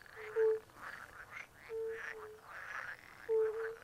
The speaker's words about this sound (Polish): A tu słychać żaby właśnie.